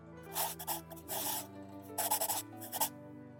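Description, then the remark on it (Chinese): Scratchy pen strokes on paper as someone writes a diary entry, coming in quick irregular bursts, a few longer scribbles then short flicks, with a soft sustained musical tone underneath and no voices. “让我来写下来啊。”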